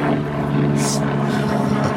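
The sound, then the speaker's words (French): A helicopter drones overhead, a steady, fairly loud engine and rotor rumble holding constant throughout, with no voices. “On entend les hélicoptères.”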